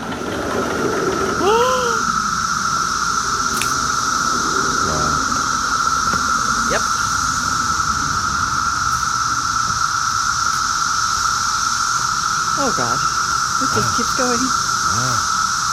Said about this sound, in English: To give you a sense of how loud these cicadas are, I'm going to start in the kitchen and walk outside. Pretty quiet in here, but...